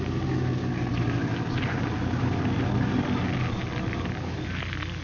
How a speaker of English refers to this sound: I'm going to run the car off the road into the bushes here so it can't be seen by anyone going by.